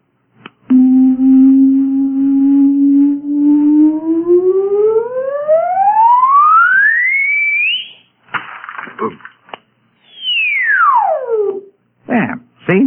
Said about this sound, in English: It produces sound waves with tremendous frequencies. It's made of, you wouldn't understand. Let's call it a sound box. Now, see this hole in front of the sound box. It sends out directional sound waves. Listen.